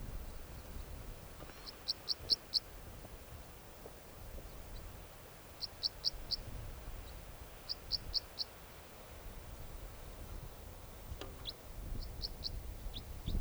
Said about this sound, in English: There goes a bird, type 4 calls, going over towards the decoys. Oh no, down on the ground